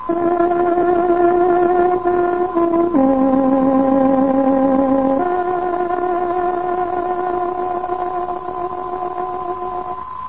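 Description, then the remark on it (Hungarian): A tárogató plays a slow, steady tune of a few long held reedy notes, stepping down and back up in pitch, loud and unaccompanied, with no talking: the exact time signal marking 21:00 on Radio Free Europe's Hungarian service, the Voice of Free Hungary, on shortwave. “Kedves hallgatóink, pontos időjelzést adunk. Tárogatónk hangja 21 órát jelez.”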